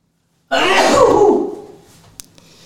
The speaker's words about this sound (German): Jetzt muss ich gleich niesen, Leute, also nicht wundern.